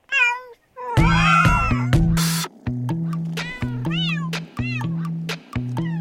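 A cat meows clearly, then keeps letting out repeated, wavering meows over a steady, pulsing low drone with sharp clicks scattered throughout.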